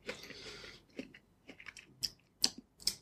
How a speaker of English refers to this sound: He's munching away on apples.